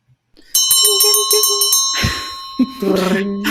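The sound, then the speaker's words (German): A bright bell rings in a quick burst of about eight rapid strikes, loud, with a lingering metallic tone, announcing the last round; people begin talking right after it stops. “So, dann läuten wir so langsam die letzte Runde ein.”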